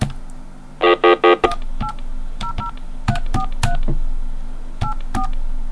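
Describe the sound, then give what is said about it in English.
Touch-tone phone dialing of an 800 number: after three short buzzy tones, about a dozen quick dual-pitched beeps sound in an uneven run over a steady low hum, with no talking. “You have dialed a number that is not available from your calling area.”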